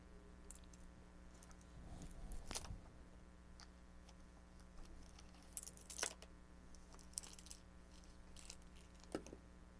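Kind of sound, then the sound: household object, keys jangling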